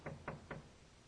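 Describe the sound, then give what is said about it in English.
Three quick, evenly spaced knocks, like knuckles rapping on a wooden door, fairly soft, with nothing else but a faint background hush. “My friends, Jesus shows up to the church of Laodicea and he is knocking.”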